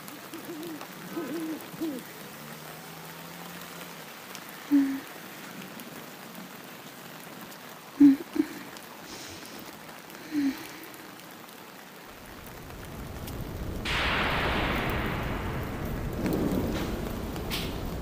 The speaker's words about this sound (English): Oh, is that thunder? A thunderstorm? I got home just in time then. Kinda nice, isn't it? Here in the rain against the window, whilst under the covers. So cozy.